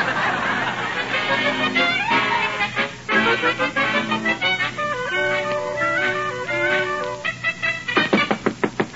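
knocking on a door

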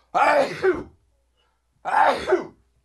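sneeze

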